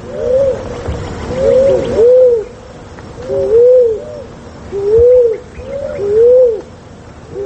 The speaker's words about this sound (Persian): شنونده های عزیز، اکنون درباره قمری، پرنده خوش سیما و خوش صدا که به رنگ نسواری یا صورتی مایل به خاکی است که در اکثر جاها و در خانه ها مانند موسیچه دیده می شود. قمری جفت جفت یا به صورت چند تایی زندگی می کند.